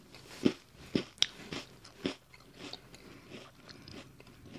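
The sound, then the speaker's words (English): Crunchy bites into a crisp cookie, a few sharp cracks early on followed by steady, quieter chewing and crumbling, with no talking. “Yeah, a crispy cookie.”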